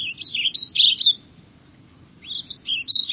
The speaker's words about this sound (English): Wherever you live, with the advent of spring, birds renew the world with song.